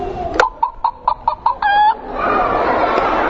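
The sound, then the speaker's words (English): A rooster-shaped toy flashlight sounds off electronically: a quick run of about six clipped clucks, then a short, bright crow, fairly loud, followed by a steady wash of background hiss. “It's a flashlight. Shaped like a rooster, and I don't know, maybe if you listen closely you can hear what it says.”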